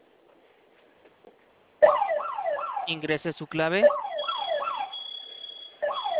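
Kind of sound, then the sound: signal or alarm, security alarm siren sounding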